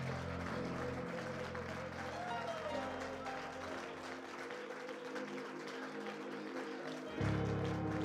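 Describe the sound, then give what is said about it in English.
An audience claps hands together in dense, sustained applause lasting several seconds, with a steady tone and voices underneath, swelling louder near the end. “Oh, come on, let's clap our hands.”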